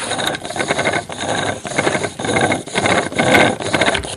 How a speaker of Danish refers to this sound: Ja, det er, fordi det skal jo blive så varmt, at det begynder at ryge. Nu har du beskrevet det udmærket. Altså, det var en slags flitsbue, hvor snoren, altså strengen, er snoret rundt om en lille pind